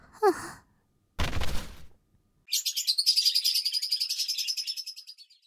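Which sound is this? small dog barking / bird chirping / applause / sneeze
bird chirping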